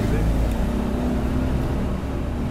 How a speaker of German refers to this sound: 5 Stunden Fahrt Richtung brasilianische Grenze. Beide Länder trennt dort der Fluss Paraná. Der Kleinwagen ruckelt über bucklige Landstraßen. Autobahnen gibt es hier nicht.